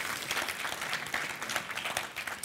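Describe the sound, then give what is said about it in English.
Steady applause from a crowd for the choir, dense rapid clapping sustained evenly for a couple of seconds with no talking over it. “Can we give them a big thank you?”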